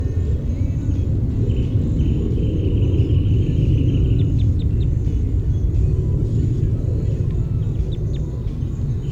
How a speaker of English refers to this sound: Five seven with a wren tit in the background.